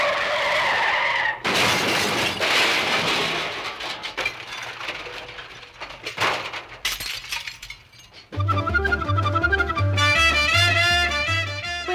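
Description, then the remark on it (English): A car's tires squeal loudly in a long, wavering skid as it swings around a corner, with rough crunching noise mixed in, before lively music takes over. “And there's someone I know from the Justice Department just coming around the corner in his car.”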